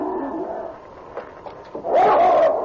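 A chained husky dog growls savagely inside a hunter's lodge: quieter rumbling at first, then a loud, sustained vocal burst near the end. No one speaks.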